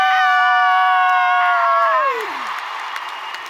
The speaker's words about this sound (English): I choose to be bold, and I want you to go, woo, scream, dance, laugh, whatever you want, clap. But let's end it with some bang. Ready? 1, 2, 3. I choose to be bold. Yeah!